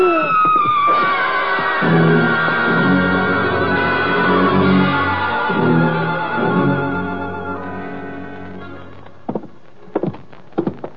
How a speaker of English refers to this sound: That was a woman screaming